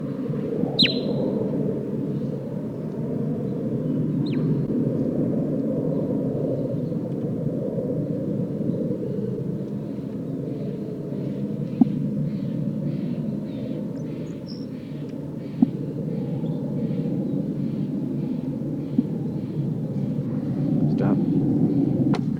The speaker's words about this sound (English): Bird 8 giving soft toots.